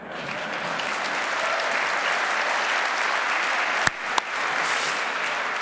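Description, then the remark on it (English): An audience applauds steadily for several seconds after a live Windows Live demo, a dense, even wash of many hands clapping, with a couple of sharper, louder claps standing out near the end. “No clap.”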